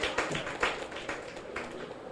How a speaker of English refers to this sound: Clap to Jesus for her life. Amen. Praise God.